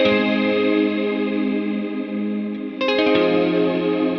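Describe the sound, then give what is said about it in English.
A dreamy electric guitar chord rings out under a huge reverb wash, sustaining evenly before a fresh strum near the end blooms into another long, shimmering tail. No voices. “It's massive reverb.”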